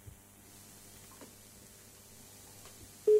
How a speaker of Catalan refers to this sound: Vostè marqui un número i li preguntarem a la primera persona que mos agafi el telèfon en qui votarà,